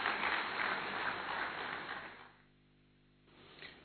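Audience applause, a dense crackle of many hands clapping, holding steady for about two seconds, then fading to near silence before a brief swell returns at the end.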